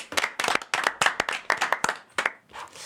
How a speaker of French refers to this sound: Et comme c'était la première chronique de l'émission, on peut tous l'applaudir.